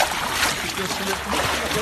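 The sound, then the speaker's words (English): Steady sloshing and splashing of legs wading through floodwater almost up to the knees on the way back to a flooded house in Fishsnake, a continuous churning wash of water with faint murmuring voices underneath. “I had to wade through water almost up to my knees with”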